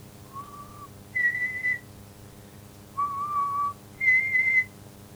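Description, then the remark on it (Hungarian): A person whistles four clear, sustained notes that alternate between a lower and a higher pitch, with brief pauses between them, heard alone with no talking. “Ilyetében fütyült egyet.”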